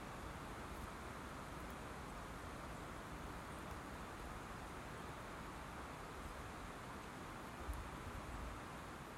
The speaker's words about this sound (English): But for the moment, I'm just going to stand here and enjoy the peace, as all I can hear is the leaves being rustled by the light winter breeze and the birds tweeting pleasantly in the branches above.